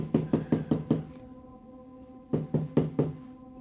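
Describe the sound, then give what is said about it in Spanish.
Someone knocks firmly on a door in two bursts: five quick raps, a pause of over a second, then four more, resonant with a short ringing decay. “Oye que termina la canción, ya no vuelven a poner play y toca.”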